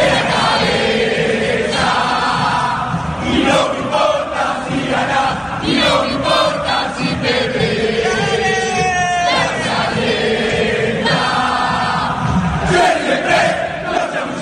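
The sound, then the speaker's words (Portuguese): A huge crowd of Boca football supporters chants and sings in unison, a loud, dense wall of voices rising and falling in rhythmic waves, with occasional sharp shouts and whistles cutting through. “Ouçam só a torcida do Boca.”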